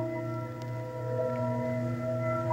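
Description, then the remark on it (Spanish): An eerie planetary sound recording of Jupiter, the fifth planet of the solar system, which rotates on its axis once every 10 hours: layered, bell-like ringing tones sustained as a steady shimmering drone, with several pitches holding together and a faint low rumble beneath, no voices. “Gira sobre su eje, le da la vuelta en 10 horas y produce un sonido muy hermoso, parecido a campanas.”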